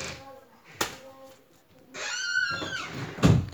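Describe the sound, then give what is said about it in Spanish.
A door clicks open, then a few seconds later shuts with a heavier thud, while voices murmur faintly in the background. “Están todo el día abriendo la puerta y cerrando la puerta como si fuese su habitación.”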